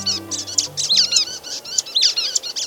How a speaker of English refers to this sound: We're hearing the calls of brown-headed nuthatches moving through the tall, longleaf pines of the Apalachicola National Forest in Florida.